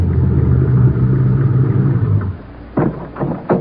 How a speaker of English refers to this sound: The car pulls through the gate and heads toward the hangar.